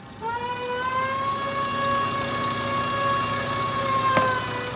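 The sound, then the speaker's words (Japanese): A siren, just switched on, wails steadily from start to finish, a sustained high tone with layered harmonics over a low engine-like rumble, fairly loud and with no one speaking. “よーし、それじゃあ行くよ。サイレンスイッチオン。”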